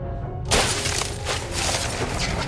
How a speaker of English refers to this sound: She disappears and returns with a steel bar. She smashes the windscreen